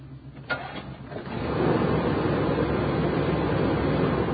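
An engine starts up close by: a brief click and cranking, then it catches and builds within a second into a loud, steady running rumble that holds to the end. No one speaks.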